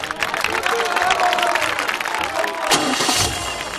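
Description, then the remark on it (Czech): A dense, steady roar of a crowd with a broad wash of clapping and excited voices, loud and sustained throughout, swelling briefly near the end: crowds lining the route cheer as the Führer's personal driver takes Chamberlain and Ribbentrop to the airport, the event broadcast live by Reich radio with commentary from loudspeakers around the airport. “Chamberlaina a Ribbentropa odváží na letiště špalírem jásajících davů Führerův osobní řidič.”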